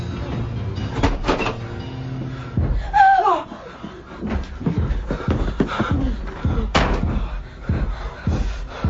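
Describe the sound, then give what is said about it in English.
A house door slams shut, followed by a clatter of sharp knocks and a brief metallic squeal as it's locked and bolted behind people dashing back inside, with no one speaking. “And just in time, we dash back inside and lock and bolt the door behind us.”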